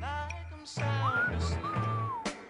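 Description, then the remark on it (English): A whistled melody with smooth, sliding notes glides over a song's instrumental backing, with steady bass and percussion underneath, played on radio station KPRZ 1210 AM in San Diego, California. It is fairly loud and clear, and there are no voices. “Yeah, I'd whistle with that song, but I would just ruin it.”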